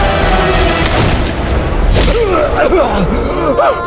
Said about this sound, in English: One of the last to leave took aim at the man leading the charge and fired.